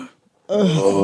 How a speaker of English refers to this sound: What's with the breathing?